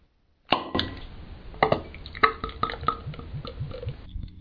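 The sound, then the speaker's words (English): Beer from a BJ's brew pub pours into a glass for about four seconds, a fizzy splashing stream with a run of quick rising glugs and a few clinks, then it fades out. No one speaks. “but first let's get the beer poured.”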